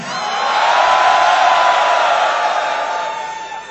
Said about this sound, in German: Das ist aber ein relativ verhaltener Applaus.